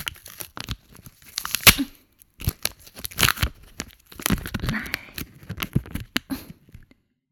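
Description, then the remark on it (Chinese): Adhesive tape being pulled off a roll in several short, crackly ripping bursts spread over a few seconds, fairly loud, with no talking. “为了防止你吐出来呢，老娘啊还特地准备了胶带。”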